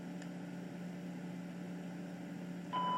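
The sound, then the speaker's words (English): A steady low electronic hum runs throughout, then near the end a single bright, high-pitched electronic beep sounds as a PenFriend talking label pen powers on after its top power button is held down, noticeably louder than the hum. “You heard a beep, and that beep indicates that PenFriend is now on.”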